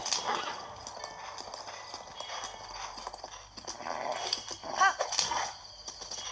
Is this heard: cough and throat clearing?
no